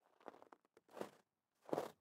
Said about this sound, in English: A very light crunching in the snow, but in the recognizable pattern of someone walking.